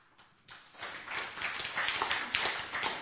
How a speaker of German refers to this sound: Applaus ist immer gut bei jedem Diskussionsbeitrag. Gerne genommen und gerne gehört.